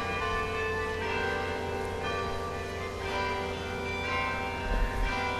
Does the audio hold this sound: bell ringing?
yes